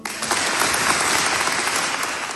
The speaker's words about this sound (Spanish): realmente hemos escuchado a 10 chavales en la plaza de un pueblo aplaudiendo